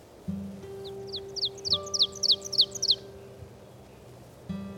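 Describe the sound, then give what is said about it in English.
An ovenbird, sometimes called teacher bird, sings a rapid series of about eight sharp, repeated two-note phrases that swell louder toward the end, ringing out clearly over a faint steady hum. “The oven bird, sometimes called teacher bird, from its song.”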